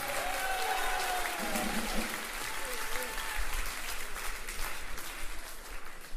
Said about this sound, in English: So give them another round of applause.